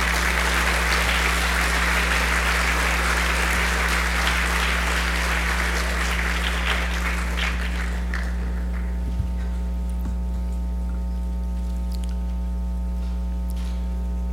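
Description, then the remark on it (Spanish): An audience at ENADE 2018, the national private enterprise meeting, applauds loudly to welcome ANEP president Luis Cardenal, a dense, steady wash of clapping that gradually thins out and stops, leaving only a low electrical hum with no talking. “Para él, por favor, un fuerte aplauso.”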